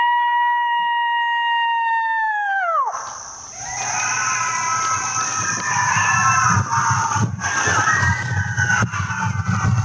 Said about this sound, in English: Also, this was on the YouTube. I found this yesterday. A guy in the wild screaming a really realistic coyote call. Oh. And listen to the response he gets in nature. This is neat. This is the guy.